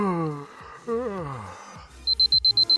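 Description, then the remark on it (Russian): An alarm clock that is switched off by photographing the barcode of an object starts beeping after a drawn-out, sleepy vocal sound. It gives a quick run of about seven sharp, high electronic beeps in a steady rhythm, fairly loud. “Утром, чтобы выключить будильник, тебе придется найти этот предмет и сфотографировать штрих-код вновь.”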